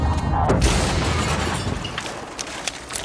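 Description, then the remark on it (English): Heavy explosions from a derelict castle being stormed rumble through a dense, continuous roar, with a deep booming blast early on and sharp bursts and crackles flaring over the din. “Sounds like this castle is being stormed.”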